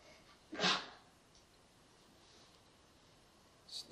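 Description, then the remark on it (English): A single short, stifled sneeze bursts out near the start, compact and muffled, followed by quiet background hiss and a faint sharp sound at the very end. “sneezes are like that too. So didn't allow the sneeze.”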